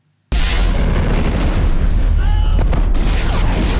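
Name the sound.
explosion sound effect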